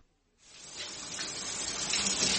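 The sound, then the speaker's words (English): After a brief silence, a steady rush of shower water starts abruptly and keeps going, a full hissing spray, growing slightly louder, with no voices. “Oh, I'm in the shower.”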